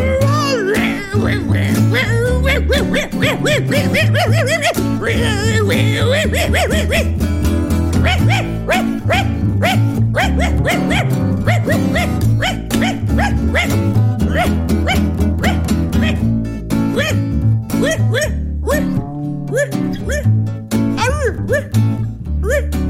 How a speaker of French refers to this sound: J'aboie tout le temps, y'a que ça qui me plaît.